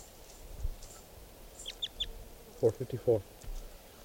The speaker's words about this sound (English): Stop. Recording bird 459.